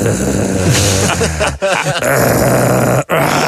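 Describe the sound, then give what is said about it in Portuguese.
A voice imitates an upstairs neighbour's noisy stretch on waking in the morning: a long, strained groan that wavers and grunts, broken by two brief pauses, loud throughout and with no words. “Quando começam a fazer sons de manhã, o meu vizinho de cima parece uma máquina de sumos. Porque ele acorda e faz.”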